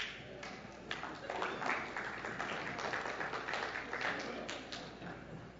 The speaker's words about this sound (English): That was almost encouraging, that clap.